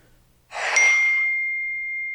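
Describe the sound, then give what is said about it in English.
A single bright electronic ding from a phone notification, with a sharp onset, followed by a clear sustained tone that rings on steadily for over a second, alone without speech. “Is that my phone? That was my phone. Okay. I'm turning it off now.”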